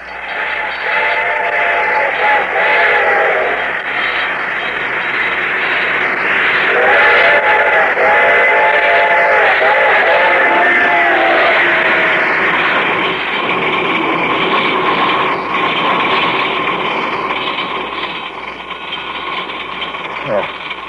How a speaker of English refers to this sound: The train was coming closer. I could hear its bell ringing and the cry of its whistle.